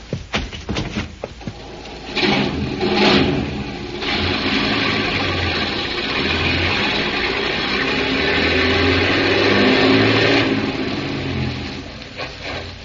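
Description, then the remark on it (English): A few sharp clanks give way to heavy truck engines roaring and revving as trucks pull away down a bank to be driven into the water, a loud, steady rumble that holds for about ten seconds before easing off. “Grab those trucks and drive them right into the water.”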